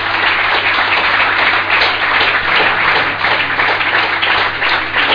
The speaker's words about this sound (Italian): Facciamo un applauso agli sposi.